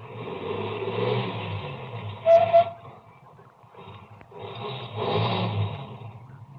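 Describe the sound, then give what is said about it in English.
A car engine rumbles steadily, its low drone swelling and fading as a car that had passed slows, stops and turns around, then growing louder again as it comes back toward the listener. A brief higher tone cuts through midway. No one speaks. “Ahead, the car that passed me slowed down, and it also stopped. Then turned around and came back toward me.”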